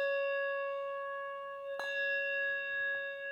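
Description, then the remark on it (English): A Japanese temple bell, rung in Japan as the new year rolls in, hums with a steady, resonant tone, then is struck once more partway through, its clang blooming and sustaining into a long ringing hum. No voices. “In Japan, as the new year rolls in, at all of the temples, they ring 108 bells.”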